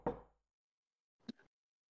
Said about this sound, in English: And as he approaches the door, takes one last look at the outside windows, the front of the building, raises his scaled hand, and begins to knock.